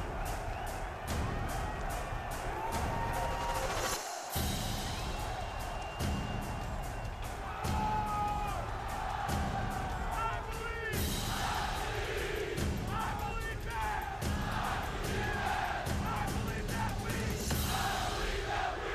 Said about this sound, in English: Football gets its power from the cheering of the fans.